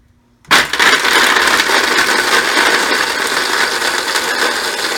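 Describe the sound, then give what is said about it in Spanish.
A blender set to speed 2 switches on abruptly after a brief silence and runs continuously with a loud, gritty whirring roar, steady throughout as it grinds almonds and oil into a thick, creamy paste. “A ver, cocinerito, me puedes colocar encendiendo la licuadora y el número 2.”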